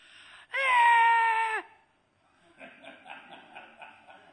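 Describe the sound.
A voice imitates a frustrated child screaming: one loud, sustained, high-pitched wail that drops off sharply, then a quieter stretch of rhythmic, pulsing whimpers and sobs.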